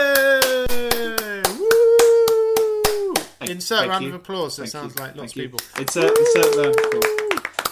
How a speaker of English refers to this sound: Insert round of applause.